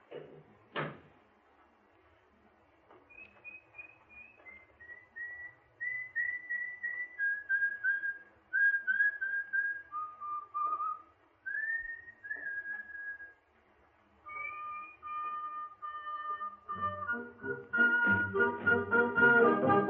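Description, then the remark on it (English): Someone whistles a short, wandering tune of clear sustained notes rising and falling, preceded by a sharp click like a door and ending under a swell of louder rumbling noise. “And when you get into the street safely, don't forget to whistle.”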